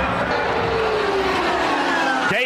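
Several race cars roar past at speed at the Indianapolis Motor Speedway, a dense, loud engine drone with a pitch slowly falling as they pass, then a sharp rising whine at the very end.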